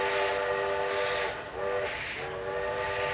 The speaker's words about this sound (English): Soon after, we reached the station and boarded the train to no one knew where.